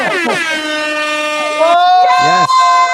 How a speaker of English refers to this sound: Oh, they like the air horn. These are the best guests ever. I love the horns.